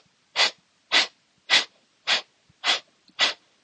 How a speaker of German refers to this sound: Dann atme einmal tief ein und wieder aus. Wir atmen gemeinsam ein und dann atme einmal aus.